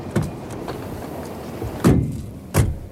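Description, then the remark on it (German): Getting into a car: faint shuffling and small clicks, then two solid car door thuds about a second apart, with no talking. “Rein in den Wagen. Wir können uns hier nicht unterhalten.”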